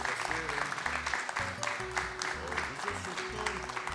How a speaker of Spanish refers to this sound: A ver, calentemos el ambiente con unos aplausos. Un poco de aplausos.